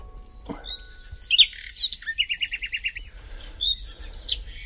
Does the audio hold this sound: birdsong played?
yes